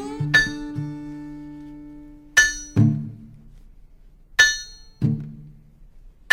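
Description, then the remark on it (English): A steel-driving hammer strikes on the Virginia road in a slow, uneven rhythm, each bright metallic clang ringing out and followed by a duller, lower thud, with no voices. “On the Virginia road, I became married to the steel-driving hammer.”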